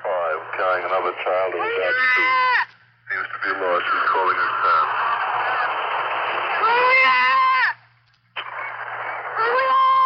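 A five-year-old boy beside a bridge screams and wails for his parents in long, high, wavering cries broken by two short pauses. The sound is tinny and band-limited, with a steady low hum underneath.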